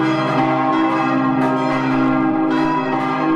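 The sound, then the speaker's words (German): Large church bells ring together in a dense, sustained wash of overlapping tones, loud, with fresh strikes around the middle and near the end as the swinging slows while bell ringers hang their full weight on the ropes to brake them, so that all bells stop at exactly 10 o'clock. “Die letzten Sekunden hängen sich die Glöckner mit ihrem ganzen Gewicht an die Seile der großen Glocken, um sie zu bremsen, lassen sich von ihnen emporreißen vom Boden.”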